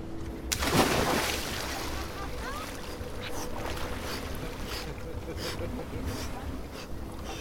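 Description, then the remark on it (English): A loud splash as someone plunges into cold water near Ilulissat, followed by continuous sloshing and churning water with muffled voices in the background. “We watch consequences for a while, and then some people decide to brave the cold water.”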